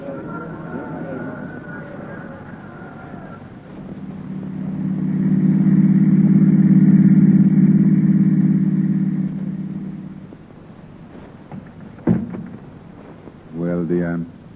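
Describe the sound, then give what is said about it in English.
A car engine hums steadily, swelling to a louder, rumbling drive in the middle before easing off, followed by a sharp click and a brief low burst near the end. “I've got the car outside.”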